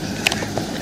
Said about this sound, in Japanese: さて今日はまたまた車の中での収録ですけれども